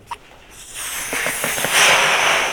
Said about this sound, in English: So we see that something is pushing that balloon forward. All it's doing is ejecting part of its mass, like a rocket, and as a result, the balloon is going forward.